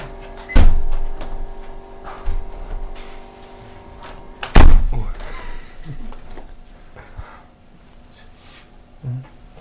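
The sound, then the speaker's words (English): A window being shut: two sharp, loud knocks a few seconds apart, with some faint rustling and shuffling between them and a softer bump at the end. “Would you mind if we close this one?”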